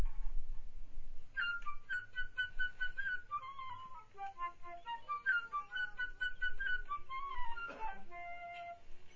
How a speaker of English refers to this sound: Is a story of Peter and the Wolf. Each character is represented by a different instrument in the band. The bird is the flute.